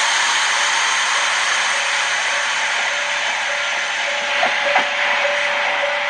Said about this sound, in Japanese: ちょっと踏切の音になっちゃうと思うんですけど。 確かにね、聞こえたね。 はい、これあの、ホッケ口駅から、うん、見たあの北条鉄道の一両の可愛い電車なんですけど、まあ、この今音やったんですけど